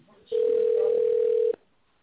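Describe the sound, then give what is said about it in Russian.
A single steady telephone ringback tone, a sustained mid-pitched hum lasting just over a second, sounds loudly over a faint line hiss before cutting off abruptly, heard while calling the company Tekhstroykontrakt and waiting for an operator to answer. “Пожалуйста, дождитесь ответа оператора.”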